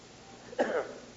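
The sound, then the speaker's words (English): A single short, forceful nose blow by a speaker who is sick, a breathy honking burst lasting under half a second, then fading back into quiet background noise. “I got to blow my nose.”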